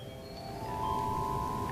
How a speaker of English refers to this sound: It has many different sounds on it. It is like the full orchestra. I can demonstrate a little bit for you. I can hold that. Hold that. That would be good. Chimes. Harp.